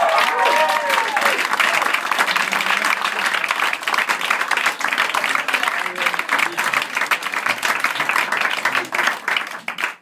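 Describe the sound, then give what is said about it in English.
A crowd applauds steadily for about ten seconds, a dense roar of many hands clapping at once, with a few faint voices and a brief cheer near the start before it tapers at the end. “for your applause.”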